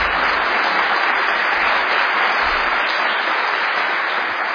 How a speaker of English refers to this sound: If you could please give a round of applause for Mr. Hamimi.